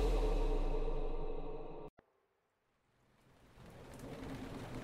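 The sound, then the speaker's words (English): Heavy, driving tropical storm rain roars with a deep low rumble on the first day of the 2009 St. Lucia Jazz Festival on the island of St. Lucia, then cuts off abruptly after a sharp click. A quiet gap follows before the downpour swells back in steadily. “Hard, driving rain, not just tropical, biblical.”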